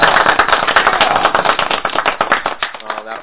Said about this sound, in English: We'll give him a clap. Let's give him a clap.